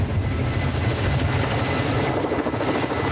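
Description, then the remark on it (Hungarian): A helicopter hovers overhead in windless weather while placing a new 4-ton transmitter antenna on top of a 110-metre tower, its rotor producing a loud, steady thudding whir with a broad rushing roar that holds constant throughout, no voices present. “Egy oldalszél elfújta volna a helikopter által keltett légörvényeket, így azonban a 4 tonnás új adót csak 3-szorra sikerült felcsavarozni a torony tetejére.”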